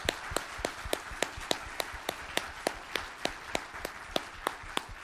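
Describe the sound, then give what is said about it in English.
A church audience applauds steadily for several seconds for children at Vacation Bible School who raised $668 for Bear Lake Bible Camp, a dense wash of clapping with sharp individual claps standing out in a fairly even rhythm. No one speaks. “So let's give these kids a round of applause.”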